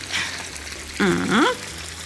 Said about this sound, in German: So, jetzt geben wir so viel Wasser in den Topf, dass die Früchte gut bedeckt sind.